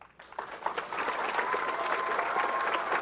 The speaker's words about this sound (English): You're clapping for yourselves, which is awesome. I should be clapping for you guys.